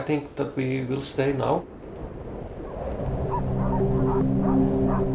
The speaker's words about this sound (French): À l'extrémité ouest de la ville ce matin, la soixantaine de chiens de la Base Camp Trapper Station sent la pression monter. Logique, ils s'apprêtent à amener en traîneau une poignée de touristes jusqu'à une cave de glace.